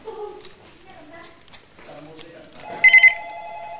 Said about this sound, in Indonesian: Telepon.